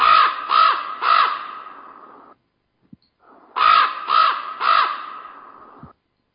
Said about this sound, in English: I'll play a raven. Okay. This raven actually has some reverb on him, well, like he's in a cave or something. Take a listen. Here's normal speed.